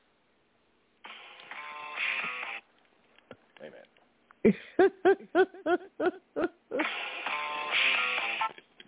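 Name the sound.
mobile phone ringtone playing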